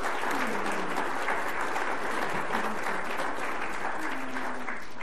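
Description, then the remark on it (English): Steady applause from an audience fills the whole stretch, a dense wash of clapping at even volume with faint crowd murmur and a few voices underneath. “And I think applause is appropriate.”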